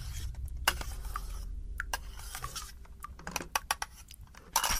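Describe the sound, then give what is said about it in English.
A coffee machine runs with a steady low hum, overlaid by irregular clicks, clinks and short hissing bursts, with no one speaking. “So that's the coffee machine.”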